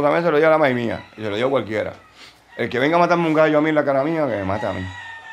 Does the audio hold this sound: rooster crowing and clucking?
yes